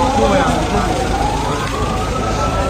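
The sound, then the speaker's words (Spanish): Ambulance sirens wail with rising and falling tones as ambulances carry wounded to hospital in Gaza City, over a steady rumble of traffic and engines, fairly loud and continuous, with voices faintly mixed into the street noise. “Ambulancias de camino al hospital.”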